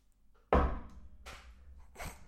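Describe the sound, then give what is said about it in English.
One solid knock on a table, loud, with a short thud that fades quickly. Softer rustling and shuffling follow. No voices are heard. “If you are being held financial hostage, knock twice on the table.”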